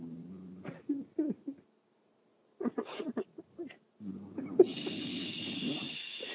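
A person snoring in rough, rattling bursts separated by short pauses, ending in a longer drawn-out snore with a thin whistling hiss over it.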